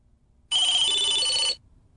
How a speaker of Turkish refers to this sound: Çalan telefonun yanındaki saat gece 12.27'yi gösteriyor.